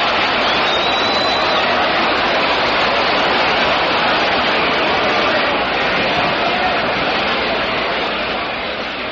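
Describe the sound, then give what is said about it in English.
A baseball crowd at Ebbets Field roars after a home run by Campanella into the left field stands makes it a 4-3 game, a loud, steady wall of cheering that holds for about nine seconds before easing slightly at the end, with no clear speech over it. “The Campanella felt for in the left field stands, it just goes in, and it's a 4-3 ball game. And listen to the crowd.”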